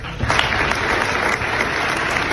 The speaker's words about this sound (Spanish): Y estos aplausos